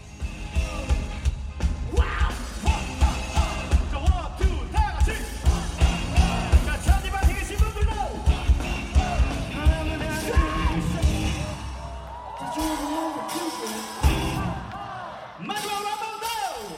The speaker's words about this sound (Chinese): 观众们开始跟着摇滚乐手齐声高呼，在韩国表演过的外国摇滚乐手都知道，韩国观众喜欢跟着歌手一起唱，韩国观众异口同声的一起唱歌，给他们留下了最深刻的印象。